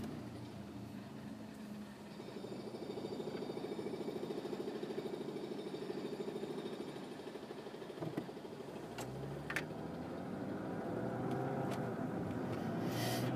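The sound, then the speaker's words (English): Steady engine hum and road noise from inside a car driving through city traffic and changing lanes to avoid a merging vehicle, with a low rumble that shifts as it changes speed, and a couple of brief clicks or knocks partway through. “Fine, I'll just get over, because you're going to merge into me if I don't.”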